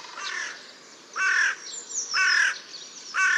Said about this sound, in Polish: wrona.